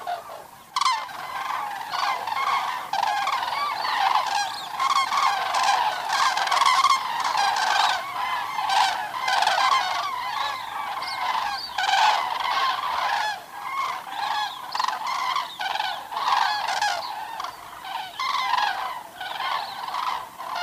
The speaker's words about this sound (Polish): Także stawy jeszcze tętnią głosami ptaków, ale to też będzie się z każdą chwilą wyciszało i tak jak tutaj pan redaktor powiedział, ułożą się do snu.